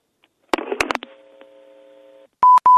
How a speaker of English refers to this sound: Okay, I guess that's it. I hear the double beep. that means she hung up.